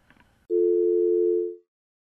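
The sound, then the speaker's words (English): A loud, steady telephone busy tone on a call-in line hums for about a second, preceded by a moment of faint crackly noise, then cuts off into silence. “Okay, we seem to be having some problems with the phones, but fortunately the Internet seems to be working.”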